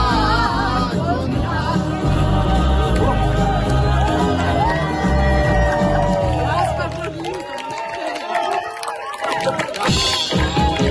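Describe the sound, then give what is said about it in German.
A crowd cheers loudly and steadily after a song is sung on a football show, a dense roar of voices with whoops and shouts, continuing for about eleven seconds before thinning slightly toward the end. “Ein dankbares Publikum.”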